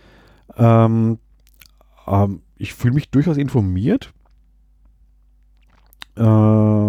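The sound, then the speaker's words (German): A person speaks German while small wet lip smacks and mouth clicks pop up between words, brief and scattered irregularly through the talking. “Ich schmatze wieder so, ich merke es gerade.”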